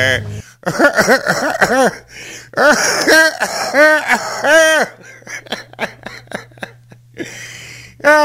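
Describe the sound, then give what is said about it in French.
Fairly loud bursts of voiced, laughter-like sounds, then a run of short, sharp coughs and throat clearing in quick succession, brought on by laughing, ending with a breathy rasp. “Il me fait tousser, là, maudit.”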